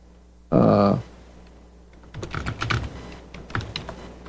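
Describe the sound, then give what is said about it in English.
A short loud burst of sound, a pause, then a run of quick, uneven keystrokes on a computer keyboard as a message is typed, clicking at moderate volume with no talking. “Let's see, I'm just typing a message here to John Stattmiller.”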